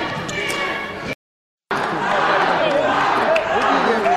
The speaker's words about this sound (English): At the Rifle student section, leading some cheers. Small crowd, but a lively crowd.